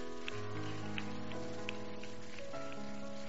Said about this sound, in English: Oh, come on, if you want to clap, you can clap right now.